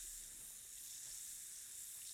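An effervescent vitamin C tablet fizzes in water, a soft, steady crackling hiss that keeps going without a break. It is fairly faint and close, with no voices.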